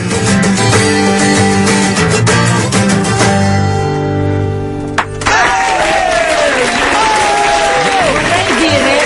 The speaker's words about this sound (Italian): Un applauso meritatissimo.